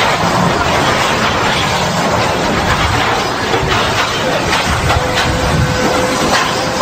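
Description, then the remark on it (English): A train derailing and crashing, shown in a short video: a loud, unbroken roar of grinding metal and rumbling wagons with scattered sharp clanks, steady throughout, with no voices. “He's got a train wreck.”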